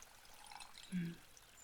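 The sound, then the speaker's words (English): A faint trickle of liquid being poured, followed by a single soft, low gulp about halfway through as the drink is downed in one go. The sounds are quiet, with no talking. “Oh my, you must have been thirsty to down your drink in one go.”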